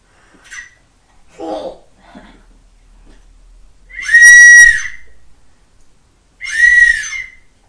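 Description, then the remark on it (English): A child blows a toy whistle from a party bag twice: two loud, shrill, wavering blasts about a second each with a short pause between, after a few faint, brief vocal sounds. “Are you going to blow a whistle?”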